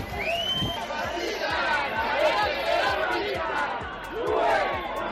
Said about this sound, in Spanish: Y esto que vamos a escuchar es la manifestación a favor de los presos etarras en San Sebastián.